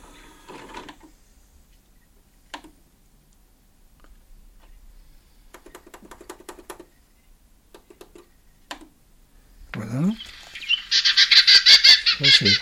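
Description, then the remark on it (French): A Western Orphean Warbler's battle call: dry ticking notes and short rattling bursts, ending in a loud, harsh, scratchy churr. No voices are heard. “C'est son langage de bataille, son cri de bataille.”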